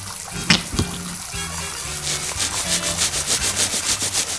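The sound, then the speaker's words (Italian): Steady spray of shower water with rhythmic scrubbing as a person washes their hair in the shower, building into quick repeated rubbing strokes, moderately loud, with no voices. “c'ho proprio voglia di farmi una bella doccia e mi lavo anche i capelli.”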